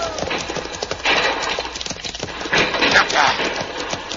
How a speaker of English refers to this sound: Pancho stampede the horses.